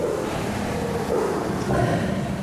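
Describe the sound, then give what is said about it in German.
A tiger in its enclosure roars and snarls while defending and eating its prey: a loud, continuous, rasping low rumble that swells twice, with no voices. “Das Brüllen eines Tigers ist manchmal mehr als 100 Dezibel laut.”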